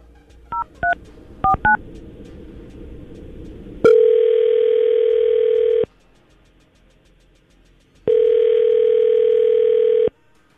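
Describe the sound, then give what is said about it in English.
Four quick keypad dialing beeps, then two long steady telephone tones, each about two seconds, separated by a pause, as a call is placed from the 99.5 QIK radio show. They sound loud and clear, with no voices. “So, well, let's try to call Brian right now and see if we can get him on the phone.”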